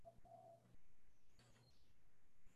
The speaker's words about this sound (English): Enjoy this time in this ancient forest. Again, listen to the birds, the bubbling water.